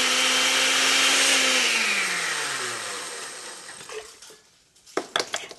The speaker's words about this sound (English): The chiles, garlic, cumin, and oregano are blended with a bit of water and an old electric blender.